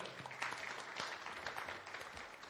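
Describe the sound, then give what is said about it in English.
A church audience applauds the young person running the projection, in a steady, dense patter of many hands clapping at once, holding a fairly even loudness for a couple of seconds without any voices standing out. “You can give him a clap.”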